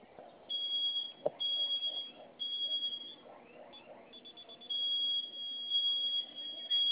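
A security alarm keypad emits a shrill, high-pitched electronic tone that sounds almost continuously, with a few brief breaks, loud over faint background noise.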